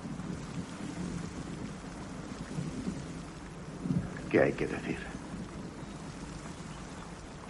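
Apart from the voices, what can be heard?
rain falling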